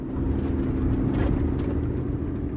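A truck engine drones steadily at a low, even pitch while the vehicle rolls along, with faint rattling and crunching from a rough dirt road, no voices.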